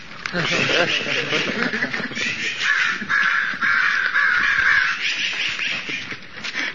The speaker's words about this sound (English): That is crow.